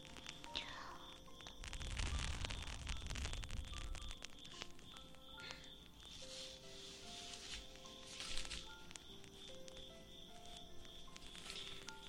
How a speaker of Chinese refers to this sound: 买了新道具，让你们听一听。让泡沫慢慢的爆炸吧。